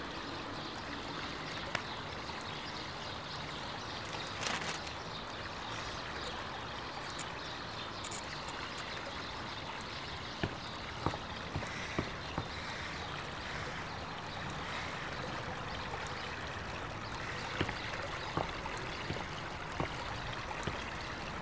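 Water laps and sloshes steadily against a boat hull on open water at sea, a continuous wash broken by occasional small splashes and knocks, with no voices.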